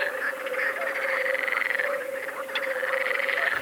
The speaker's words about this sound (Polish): Natomiast na tle tego huczenia są oczywiście rechoty. To żaby jeziorkowe, śmieszki oraz żaby wodne. Żaby jeziorkowe cechują się rechotaniem przeciągłym.